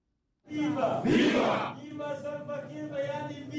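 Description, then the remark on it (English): A crowd of SPLM in opposition and SPLM officials bursts into loud cheering and shouting for their respective movements, a roaring swell of voices easing into sustained, chanting-like cheers over a clatter of applause, minutes before President Kiir swears in Taban Deng Gai as first vice president at a ceremony in the presidential palace known as J1, Juba. “SPLM in opposition and SPLM officials applaud their respective movements minutes before President Kiir swears in Taban Deng Gai as the nation's first vice president at a ceremony in the presidential palace known as J1.”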